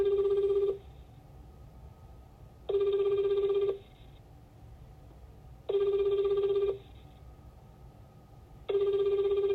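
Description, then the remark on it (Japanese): A telephone ringback tone repeats four times, each steady one-second buzz followed by a two-second pause, heard clearly over a low line hiss with no one speaking, while a company's automated phone system connects the call. “おつなぎしておりますので、しばらくお待ちください。”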